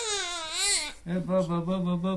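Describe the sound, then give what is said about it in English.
A baby girl, cradled by her father in a small apartment in Istanbul, cries: one long, high, wavering wail, then a quick run of shorter, lower, rhythmic sobbing cries, fairly loud and with nothing else behind it. “In a small apartment in Istanbul, Ayman, a new father, cradles his infant daughter”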